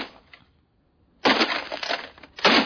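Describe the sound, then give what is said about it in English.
After a soft scrape and a moment of near silence, loud crunching smashes of radios being smashed in a montage erupt, followed by one more harsh crushing burst near the end. “Radio smashing montage.”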